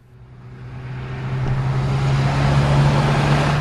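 Blue and green Kawasaki motorcycles whizzing around a dirt race track, a low, steady droning hum under rushing noise that swells louder over a few seconds and then holds at full roar, with no voices.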